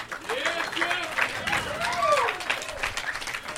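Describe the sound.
A crowd claps steadily for several seconds, a dense crackle of hands, while voices call out and whoop over it in rising and falling tones.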